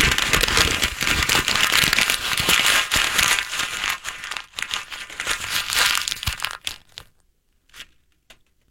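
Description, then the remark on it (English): A paper letter is crumpled after being read, a loud, continuous crinkling and crackling for about seven seconds that trails off into a few faint rustles. “Can you also please crumple after reading?”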